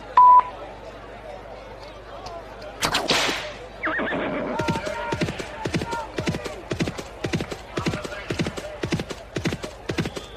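A brief beep, then a loud horse whinny, followed by a steady run of quick clip-clopping hoofbeats that continue to the end, as a horse race begins with Juan, the Spanish horse.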